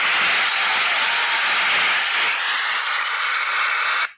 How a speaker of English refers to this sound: I do have to give some hand claps on that one, okay?